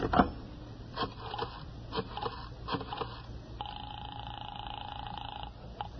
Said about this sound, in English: I went into the living room and picked up the phone.